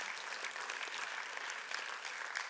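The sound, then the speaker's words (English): A church crowd claps for the middle schoolers who are to be baptized, a steady, dense patter of many hands that stays at an even, fairly soft level from start to finish, with no voices standing out. “All right, you all clapped, right?”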